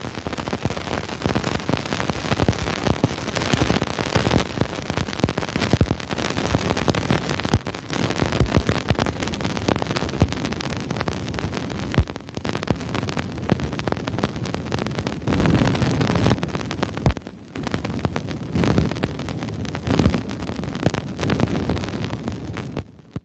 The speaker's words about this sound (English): These radio bursts were picked up by Cassini's antennas, and so you're hearing radio static that sounds almost exactly like ice particles hitting the hull of the probe.